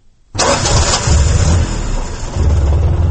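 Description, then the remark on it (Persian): An old Soviet car, given as a gift by Soviet leader Brezhnev to a village woman in Vose district and still used as a taxi in the Kulob region, cranks and catches, then settles into a loud, rough, rumbling idle, with no voices present. “ماشینی سبوگربه که 3 سال قبل از جانب برژنیو رئیس جمهوری شوروی سابق به یک زن دهاتی در ناحیه واسه تحفه شده بود تا هنوز در خدمت مردم قرار دارد”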